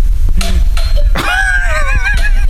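A feeble, thin doorbell chime sounds a couple of wavering, slightly warbly tones over a steady background hiss, after a few brief clinks and knocks.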